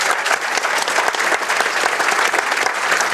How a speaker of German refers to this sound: Wir könnten jetzt auch mal dem Kamerakind mal ein Beispiel spenden, ein Beifall spendieren.